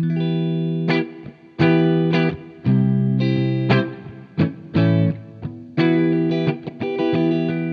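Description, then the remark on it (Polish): A distorted electric guitar plays a riff of sustained chords with sharp attacks through an amp on its normal channel with the knobs at 12, its tone dark and muddy with heavy low-mid weight and little brightness. No one speaks. “Zbyt ciemne, nie? Ciemne, muliste, takie właśnie jakbyśmy skręcili gałę tonu.”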